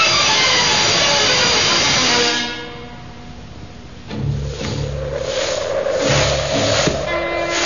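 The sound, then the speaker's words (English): A train on a Monday morning rolls along the rails with a steady rumble and hiss. It fades briefly to a quieter stretch, then swells again with a droning mechanical hum and rhythmic clatter, fairly loud. “took his package on the train with him on Monday morning.”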